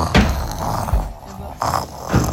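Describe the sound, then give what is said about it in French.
A voice imitates the loud, rumbling snoring of a sleeping wolf, a few rough growly breaths in a slow uneven rhythm, fairly loud over a couple of seconds. “Rassasié, Loulou s'endormit et se mit à ronfler très fort.”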